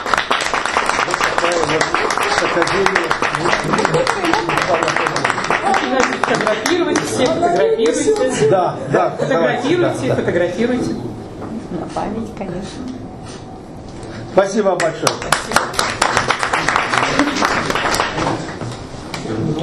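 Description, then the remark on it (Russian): A crowd applauds steadily for about twenty seconds at an award presentation, as a woman receives a letter of thanks for many years of work in local self-government; dense overlapping claps, dipping briefly in the middle before swelling again, with faint voices murmuring underneath. “Друзья, аплодисменты.”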